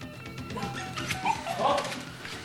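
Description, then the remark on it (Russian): A dog whines and whimpers, with a few short, excited yelps in the middle. It is moderately loud, and no one speaks. “Да, господи, раз собака нашлась, найдется и хозяин.”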